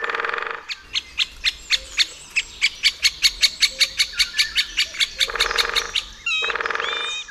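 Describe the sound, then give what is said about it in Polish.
A woodpecker gives a long, loud series of about twenty sharp, evenly spaced call notes, with other bird chatter briefly before and after the run, at a spot in Poland with pine and spruce cones where woodpeckers can be found in winter. “I to jest właśnie takie miejsce, gdzie zimą można spotkać takiego dzięcioła.”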